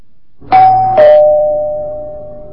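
A doorbell chimes twice in a ding-dong pattern, two bright tones struck about half a second apart, the second ringing out and fading slowly over a low background hum.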